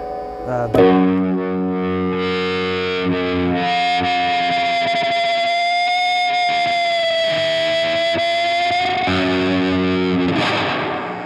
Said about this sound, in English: Sometimes I need a little bit of reverb, and so that'll go, maybe if I'm doing feedback on some songs where it's got to have kind of a spooky, haunty feel, then the reverb will come on.